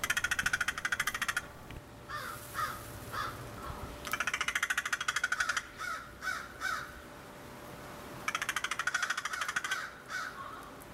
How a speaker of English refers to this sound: How about a field note about one of our sweet black corvids? It's called Flock Talk, Conversing with Crows.